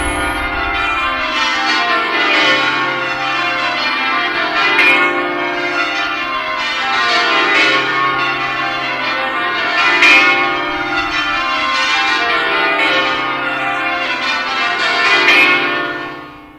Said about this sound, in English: The bells of Winchester Cathedral. It's 10 o'clock on Sunday, December the 6th, 1987.